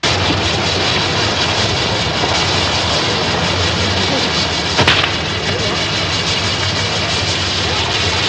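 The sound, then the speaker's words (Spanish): Fireworks on a castle frame made by a man, just lit, roar and hiss loudly and steadily, with one sharp, booming burst partway through. Indistinct voices may sit beneath the noise. “Él hace unos castillos bonitos y al encenderlos truenan así.”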